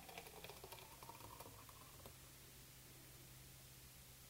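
Foamy juice fresh from a juicer is poured into a glass in a short, bubbly trickle lasting about two seconds, fairly quiet, then only a steady low hum and background hiss remain.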